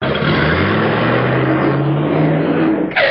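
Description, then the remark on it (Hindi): A car engine revs loudly and steadily, its pitch climbing as it accelerates, with a sharp burst of noise right at the end. “ए madam, ए madam, गाड़ी संभाल के चलाई ना तो एक्सीडेंट हो जाए।”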